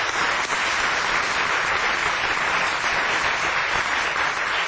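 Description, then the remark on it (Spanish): Sustained applause from an audience at a Radio del Plata show, welcoming a presenter, a dense, even clatter of many hands clapping at a steady loudness for several seconds, with no voices over it. “Y vamos a aplaudir ahora con gran entusiasmo”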